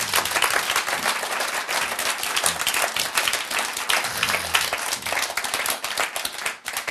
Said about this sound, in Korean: 박수.